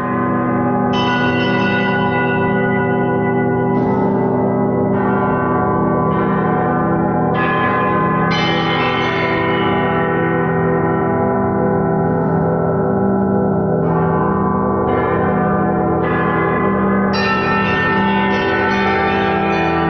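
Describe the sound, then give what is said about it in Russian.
Pieces of a bell-bronze alloy, close to bell metal but of somewhat different composition, struck again and again at an irregular, lively pace, each strike blooming into a loud, shimmering ring that overlaps with the last into a dense, sustained peal, with no voices. “Это близкий к колокольному металлу, несколько другого состава, но его можно назвать колокольной бронзой.”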